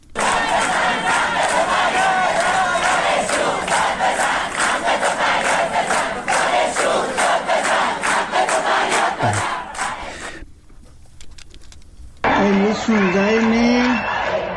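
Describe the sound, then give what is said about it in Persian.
A crowd of young voices, protesting high school students, chants the slogans "Death to the dictator" and "Freedom, freedom, freedom" in loud, rhythmic unison, the shouts pulsing steadily before a brief lull, then a burst of louder, higher-pitched chanting resumes. “بچه های دبیرستانی شعار مرگ بر دیکتاتور، آزادی آزادی آزادی.”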